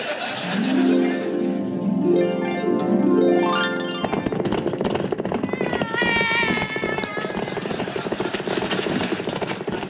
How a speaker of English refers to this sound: And so the cavalry set off by way of Pina and rode all night, save a stop for dinner, which I would describe to you in all its courses, only I can't hear myself speak for these blasted horses.